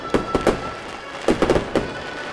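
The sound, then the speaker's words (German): Fireworks bursting in the rain at a premiere, in two quick clusters of sharp, crackling bangs, about seven in all, over a steady background hiss with no one talking. “Aber jetzt haben wir mehr Feuerwerk als Musik.”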